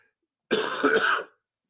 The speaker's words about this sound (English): That's how I'll describe my cough.